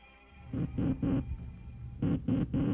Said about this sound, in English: Those sounds, ladies and gentlemen, were a simulation of the letter S in Morse code, which were the first sounds to be transmitted across the Atlantic Ocean by wireless telegraphy by the late Senator Guglielmo Marconi.